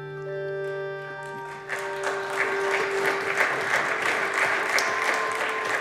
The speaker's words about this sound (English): Mitt Romney earned himself a bipartisan round of applause on the Senate floor because he hit on the central dilemma and served up a high-minded illusion of a solution.